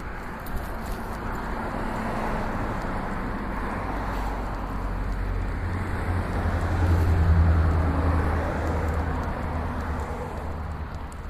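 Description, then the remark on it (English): A car's low engine rumble builds and swells as it pulls out of a driveway and moves off, over a steady wash of outdoor street and traffic noise, with no one talking. “Alright, we're crossing a driveway going behind the car. He just pulled out, so now we're back onto the sidewalk.”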